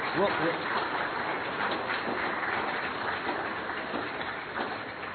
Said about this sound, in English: Let's give these three a round of applause.